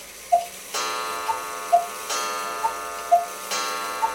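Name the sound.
clock ticking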